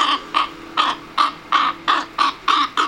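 A crow caws repeatedly in a steady rhythm, about eight harsh, raspy calls in under three seconds, each short and loud with brief pauses between, and no voices.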